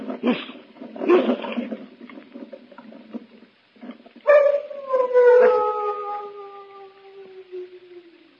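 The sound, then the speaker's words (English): Large dogs kept at the Chateau d'Arzay let out rough, deep baying sounds, then one long, loud howl rises sharply and slowly slides downward for several seconds, with no talking. “Only the dogs, monsieur. They keep many dogs, large dogs at the Chateau d'Arzay.”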